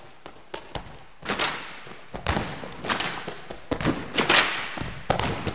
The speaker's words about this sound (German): Am Anfang kommen die Schritte und dann zack, Sprung aufs Trampolin.